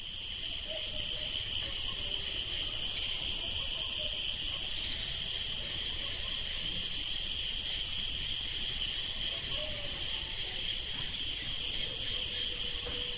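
A dense night chorus of cicadas buzzes steadily at high pitch throughout in India, with faint, scattered calls of birds and frogs underneath. No one speaks.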